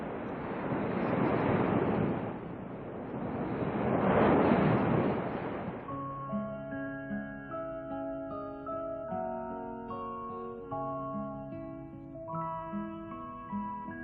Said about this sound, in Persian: هرچی پارو میزنم و پیش میرم چیزی نمیبینم. خدایا دیگه بازوام از قدرت افتاد.